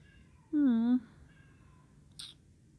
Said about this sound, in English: Oh, the cat. Oh, why is he crying?